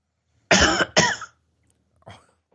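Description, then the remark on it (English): A person coughs twice in quick succession, loud, followed after a short pause by a softer, quieter third cough. No talking. “Why don't you just do like this on the thing, like you're pushing a button, and that'll make me cough.”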